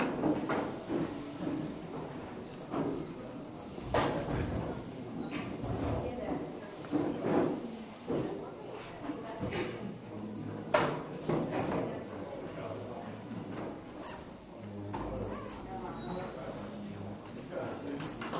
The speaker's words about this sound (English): Can we make sure we turn the chairs around that are on this side?